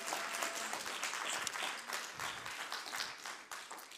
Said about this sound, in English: Shall we give God a hand clap? Hallelujah.